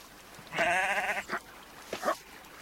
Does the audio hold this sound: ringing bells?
no